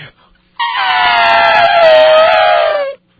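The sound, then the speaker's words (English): A person imitates Godzilla's growl: one long, harsh, strained roar held for over two seconds, fairly high and raspy, sliding slightly lower in pitch before stopping abruptly. “And did you catch the scene where he's growling and it goes on forever?”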